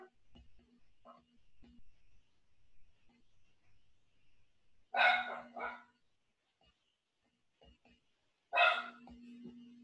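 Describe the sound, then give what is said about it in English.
Dogs bark in short, loud bursts: a quick pair of barks, a pause, then one more sharp bark, with faint background murmuring. “Oh my God, my dogs are killing me.”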